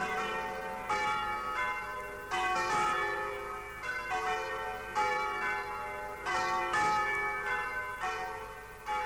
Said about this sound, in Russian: Слышишь, колокол звонит. Что бы это значило?